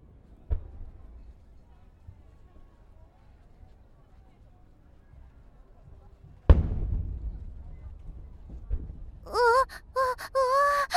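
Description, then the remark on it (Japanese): A firework explodes at the start of a fireworks display with one sudden, loud boom that rolls off into a low rumble, followed shortly by a woman's voice exclaiming. Before it, a faint muffled thump over quiet background. “花火の音ってこんなに大きいの？”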